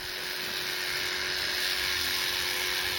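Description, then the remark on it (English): Electric clippers buzz steadily, a constant high-pitched motorized whine with a low hum underneath, running without pause as a horse's mane is shaved at a small farm where horses are being prepared for pato practice. “Their manes are shaved.”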